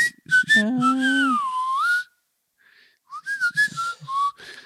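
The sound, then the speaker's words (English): A person whistles in a playful, speech-like way, with sliding and warbling tones in two bursts separated by a brief pause, imitating a whistled language. Fairly loud, with no talking. “It's a small suburb in Melbourne where there's a whistling language that still continues to has emerged.”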